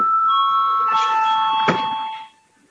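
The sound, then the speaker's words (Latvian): A parliament chamber bell rings in one steady, continuous burst for a little over two seconds, fairly loud, calling members to a vote, then stops abruptly, with no one speaking. “Mums ir jābalso. Lūdzu zvanu.”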